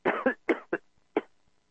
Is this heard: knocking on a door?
no